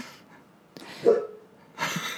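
animal, dog barking

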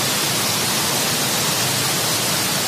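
sound effect, pink noise

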